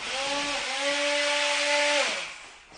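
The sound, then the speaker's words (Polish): A larger electric blender used for grinding lightly boiled meat grinds with a steady, loud motor whine over harsh whirring noise, holding one pitch for about two seconds before the tone bends downward and winds off. “Tato co półtora tygodnia kupuje sobie 2 kilo mięsa, specjalnie je kroi, miele, później lekko rozgotowuje, a to wszystko później trafia pod blender, no i do specjalnych kubeczków, które są zamrażane na przyszłość.”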